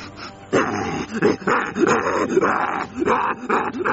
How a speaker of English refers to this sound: Yeah, that dog's eating Ken.